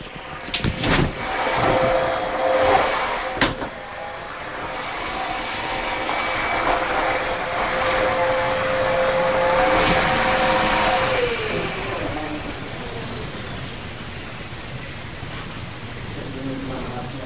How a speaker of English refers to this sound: Just 1 minute. I will ask him to stop the vacuum cleaners. He will be disturbing to others. Just 1 minute.